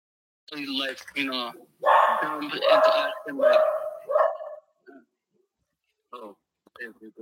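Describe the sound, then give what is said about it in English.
A dog barks and yips excitedly in a quick, loud run of overlapping barks, falls quiet briefly, then lets out a few shorter, softer barks. “Yes, this is my favorite dog.”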